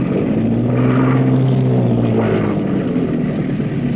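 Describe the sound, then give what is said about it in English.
A boat engine drones loudly and steadily as the boat comes in to dock at a wharf in the rain, its low hum rising and falling slightly in pitch as it revs, continuous with no voices. “Cut engine.”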